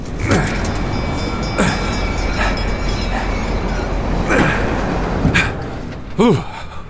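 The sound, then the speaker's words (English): Inside a moving passenger train carriage at night, near dinner time: a steady, loud rumble of wheels on track, punctuated by irregular clunks and rattles, with a short vocal sound near the end. “We should make our way to the dining car soon.”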